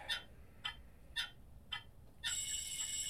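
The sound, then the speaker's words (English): A clock ticks in four crisp, evenly spaced beats, then an alarm clock bursts into a loud, continuous, shrill ringing at 6 in the morning that carries on to the end, with no voices. “I shut the noisy alarm up and crawl out of bed.”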